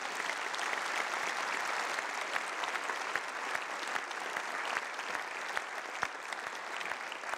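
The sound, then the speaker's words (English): A church audience applauds, a dense, steady wash of clapping from many hands that holds at an even level for the whole stretch, with no voices standing out. “Friends, if you don't applaud in church after that, you just dare.”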